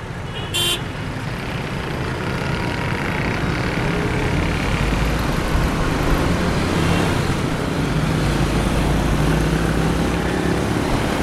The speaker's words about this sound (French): Nous approchons du centre-ville et la circulation est tout de suite beaucoup plus intense.